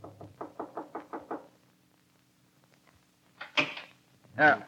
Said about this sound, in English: She tied it into a knot over a walking cane and came down and knocked on the door of her employer's room.